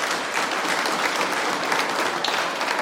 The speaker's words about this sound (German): Einen Applaus für diesen jungen, talentierten Musiker.